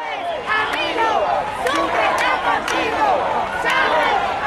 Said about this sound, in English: After signing the Sucre legislation, the heads of state rushed to a public event in Cumaná's Ayacucho Plaza, where they were greeted by thousands of cheering Venezuelans.